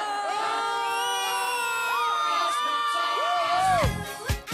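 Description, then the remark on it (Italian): A big crowd erupts in loud, sustained cheering for a football goal, many voices shouting and whooping together, swelling in a final burst before cutting off. “Poi arrivano gli anni 80 e un urlo liberatorio. Gol! Gol!”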